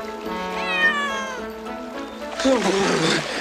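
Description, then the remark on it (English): Sassy, a cat stopped at the edge of a river as dogs paddle across, lets out a long, wavering meow that rises and falls in pitch, followed by a shorter whiny cry over a rushing, splashing water sound. “Please, don't make that noise, Sassy.”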